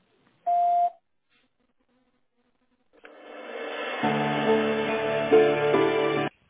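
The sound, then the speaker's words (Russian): A single short, steady electronic beep at a mid pitch from an automated phone line, signalling when to dial a staff extension, then silence, followed by a rising hiss that turns into a loud, buzzing, tonal line noise. No one speaks. “Если вы знаете внутренний номер сотрудника, наберите его после звукового сигнала или дождитесь ответа оператора.”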